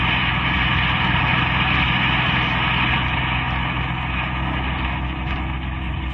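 A car engine drones steadily while driving past Octavia to Laguna and down to Broadway, a loud, continuous rumble with a constant hum and no breaks or voices for the whole stretch.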